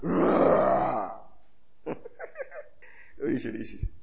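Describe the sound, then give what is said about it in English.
A person lets out a loud, gravelly roar lasting about a second, voice straining, followed by a few quieter, broken vocal sounds and bits of speech. “You now start, what do you call it? Roaring.”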